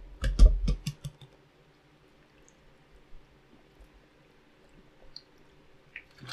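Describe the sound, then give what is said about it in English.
Someone takes a quick sip of water: a short cluster of wet gulping and swallowing noises at the start, then near silence with faint shuffling. “Like I said, and actually I'm going to need to get a drink of water here before we dive into this.”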